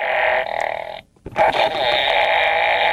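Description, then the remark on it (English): A party game toy, pressed the number of times shown on a played card, makes a loud, raspy electronic fart noise: a one-second buzzy blast, a brief silence, then a longer, steady sputtering fart that runs to the end, with no talking. “Press me the number of times shown on the card you play. My pressure builds with each push. Make me fart and you're out.”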